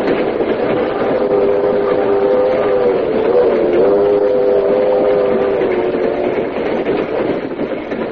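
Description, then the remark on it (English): A moving train rumbles loud and steady throughout, while a long, sustained steam whistle sounds over the noise through the middle of the stretch, with no one speaking. “We'll meet you on the train.”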